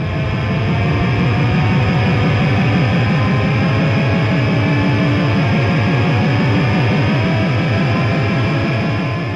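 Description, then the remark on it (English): Loud, abrasive industrial music from Beijing, China: a dense wall of harsh noise driven by a fast, relentless low pulse repeating several times a second, with no voices, sustained at full intensity throughout. “This is what industrial music from Beijing sounds like.”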